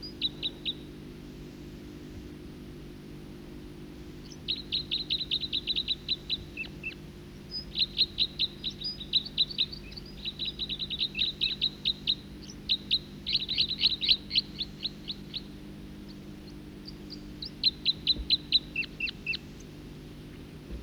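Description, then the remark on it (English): Bursts of high, rapid chirps from a second bird, at about 50 meters, come in clusters of quick repeated notes, pausing between bouts, over a steady low hum with no talking. “Second bird.”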